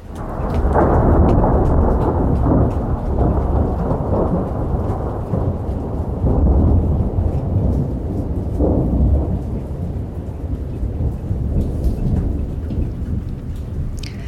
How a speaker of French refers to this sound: La tempête a commencé à la 20e heure.